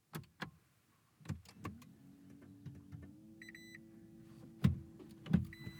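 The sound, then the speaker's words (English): A Toyota Prius hybrid car starts up in a garage and reverses out of the driveway on its electric motor, a low steady whine rising slightly, with clicks and thumps and short electronic reversing beeps sounding intermittently. “We're starting to move. Mm-hmm. And there's no engine yet except for the electric motor.”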